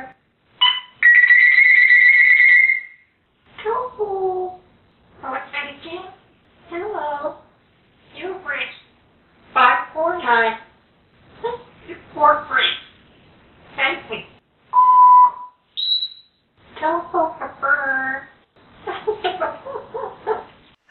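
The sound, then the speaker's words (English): A female parrot mimics a warbling phone ring at the start, then chatters in clear, speech-like syllables and imitates a short electronic beep near the end, all fairly loud. “she makes that phone ringing sound, and then she recites your phone number and says, you have reached 9354362. Thank you. Goodbye. Beep.”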